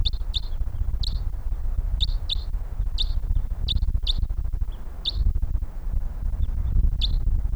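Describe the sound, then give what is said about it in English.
Distant bird calls from birds coming in: a dozen or so short, high chirps come in irregular bursts, some doubled, over a steady low rumble of background noise. “Okay, we got birds coming in here.”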